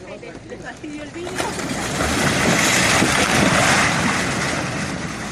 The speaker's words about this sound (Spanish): Bueno, pues esto que escuchas es el sonido de cómo cae esa casa verde engullida por el río de lava que la acaba de sepultar para siempre.